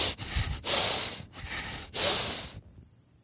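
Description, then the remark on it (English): Heavy, forceful breathing through the nose, four loud close-up huffs in a rough in-and-out rhythm, like angry snorting, with no talking, then trailing off into quiet. “And the other word for wrath is nostrils, which means the heavy breathing of God.”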